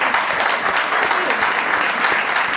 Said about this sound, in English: And I just want to thank the staff so much. If people could just give them a huge round of applause and stand up.